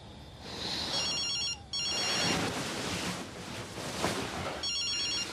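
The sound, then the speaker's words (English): A telephone rings in two bursts, a trilling electronic bell repeating over a steady rushing wash of background noise, then a third ring begins near the end. “Tom picks up his phone.”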